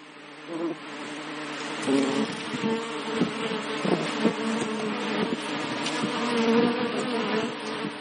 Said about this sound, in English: Art Prize in Grand Rapids is usually swarming with people, and this year it will be swarming with bees. Kalamazoo artist and beekeeper Ladislav Henka has found an interesting way to let his bees collaborate on his artwork.